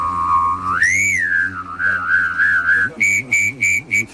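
A mouth-whistled imitation of Darth Vader's lightsaber: a steady hum that swoops up into a wavering tone, then a string of short, rhythmic pulsing bursts, fairly loud with no talking.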